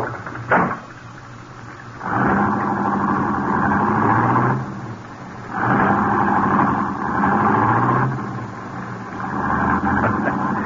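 A sharp knock like a car door shutting, then a car with a casket inside and the key left in the ignition is started and runs with a rough, droning roar that swells and eases in waves as it is driven off toward a farm. No speech.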